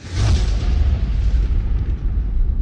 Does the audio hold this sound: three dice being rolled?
no